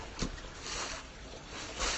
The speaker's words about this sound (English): And you can probably hear the water trickling.